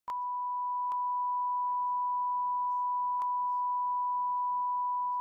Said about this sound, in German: Ja, der ist nicht jugendfrei. Dann müssen wir ihn piepen. Aber sag mal hier, in unserer Runde noch piepsen wir den raus.